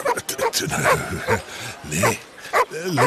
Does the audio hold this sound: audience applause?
no